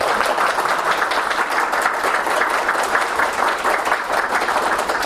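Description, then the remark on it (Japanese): Sustained audience applause for the lecturer at the close of a child and youth support seminar, a dense, steady wash of many hands clapping at once, fairly loud and continuous throughout with no voices on top. “それでは今一度永井先生に盛大な拍手をお願いいたします。”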